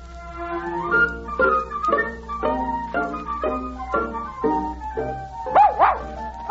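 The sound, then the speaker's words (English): Johannes Brahms's dog Felix barks out in the fields in a quick, steady run of about eight loud barks, finishing with a higher, wavering whine-like yelp. “As we start their story, Johannes is striding across the fields talking to his dog.”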